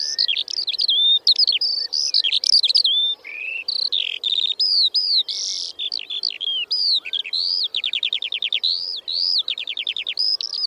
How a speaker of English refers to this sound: As it is, these hills are remarkable in that they hold healthy populations of bird species which have disappeared from most of England, and overhead the skylark song is probably the most familiar.